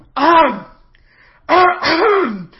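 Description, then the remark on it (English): A loud, voiced cough made of three throaty bursts: one short hack, a pause, then two quick ones in a row, as a character entering a scene coughs loudly on seeing the situation. It sounds like a person deliberately performing the cough. “When he enters, he coughs loudly, seeing the situation.”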